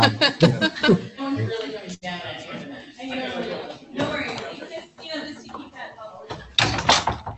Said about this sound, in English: And if it's possible, if we could close that door,